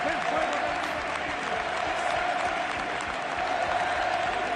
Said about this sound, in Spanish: El pueblo se pone en pie. Aplaude todo el estadio mejor del sur de Europa.